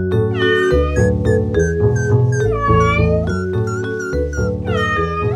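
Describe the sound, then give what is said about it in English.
A cat meows repeatedly in rising and falling cries, loud, layered over continuous music with a steady low accompaniment; no one speaks. “Bring me a pumpkin, 6 mice, and your cat.”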